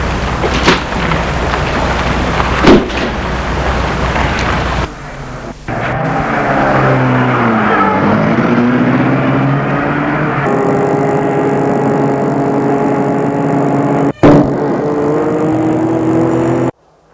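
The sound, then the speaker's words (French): A man gets into his car at night on a deserted street; the engine turns over and revs up, its pitch rising and falling as it pulls away, following a stretch of steady rain-like hiss. No one speaks. “Vite, il entre dans sa voiture.”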